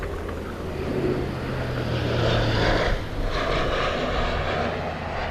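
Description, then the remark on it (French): Loud Belgian military airplanes roar overhead during a morning army exercise at an airport, with a little wind, a sustained low engine drone with a rushing wash that swells in the middle and lingers, no voices present. “On entend des avions qui passent. L'armée belge organise des exercices ce matin à l'aéroport.”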